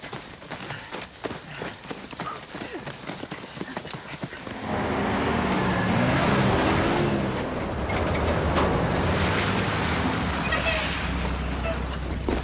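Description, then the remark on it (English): Sharp clattering clicks give way to the loud, steady rumble of heavy truck engines as a small convoy, a truck followed by a pair of open-topped lorries packed with troopers, drives out of a camp; a deep droning growl that carries on to the end. “His truck is followed by a pair of open-topped lorries packed with troopers.”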